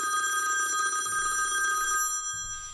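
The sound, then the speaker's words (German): A telephone bell rings steadily with a bright, sustained metallic tone and a fast shimmering trill, then cuts off near the end. No one speaks. “Der rief echt mehrmals täglich an.”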